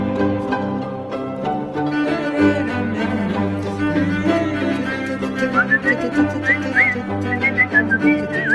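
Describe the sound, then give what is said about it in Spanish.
A bright whistled tune plays over a steady musical backing with a deep bass line, the melody rising and wavering in short phrases, clear and up front, with no one speaking. “Hace tiempo que no silbábamos.”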